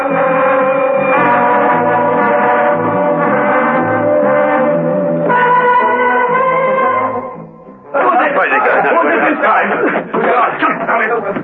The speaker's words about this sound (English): Steed heard the warning bells. It could only mean another escape.